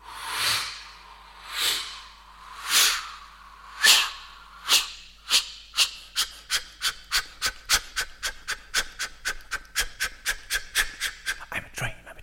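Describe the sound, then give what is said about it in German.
An audience imitates a steam engine chugging, making pushing sounds with their hands to the right and left, rhythmic breathy hissing bursts starting as slow, widely spaced puffs and steadily speeding up into a rapid, even train-like rhythm. “Aber vielleicht probieren wir, bevor wir diesen Train machen, dass Sie ein paar Schiebegeräusche für die Dampfmaschine machen.”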